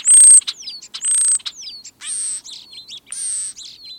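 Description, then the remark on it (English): A busy stream of European starling calls: harsh buzzy rasps alternating with thin whistles and clicky chatter, repeating in quick bursts with no talking. “Although they're not blackbirds, starlings also gape as they work a lawn.”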